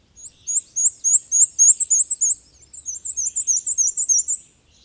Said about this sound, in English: The black and white warbler has a distinctive song, though it's so high-pitched that it's often above the hearing range of some people. It's a simple, unhurried series of about 6 to 8 couplets, often transcribed as weesy, weesy, weesy, weesy.